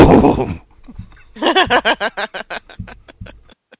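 A horse whinnies loudly, opening with a harsh burst and breaking into a rapid, shuddering run of pulses that fade out toward the end.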